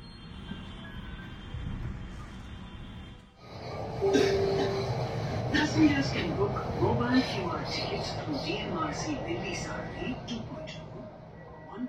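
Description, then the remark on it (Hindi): A metro train at Okhla, Jamia runs steadily with a continuous rumbling roar. It drops briefly, then surges louder with rattling and clatter, while indistinct voices murmur in the background. “यह ओखला है जामिया। मेट्रो की खिड़की से लगता है सारा मोहल्ला पेड़ों के नीचे डूब गया है।”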